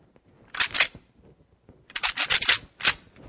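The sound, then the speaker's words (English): Deer antlers from a rattle bag rattled together to imitate two bucks fighting for dominance, in short bursts of dry, bright clicking and clattering: a brief first flurry, a pause, then a longer, busier rattle ending in one final clack. No one speaks. “Well, that's supposed to imitate two deer, bucks, who are fighting, trying to prove their dominance.”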